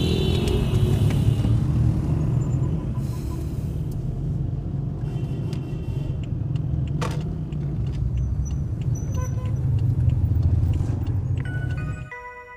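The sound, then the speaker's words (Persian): A car engine rumbles steadily, a low continuous drone of a car pulling away from a red light and driving, with faint higher clicks and traffic noise above, ending abruptly. “یه موتوری میزنه به شیشه، طلا به خودش میاد حرکت میکنه.”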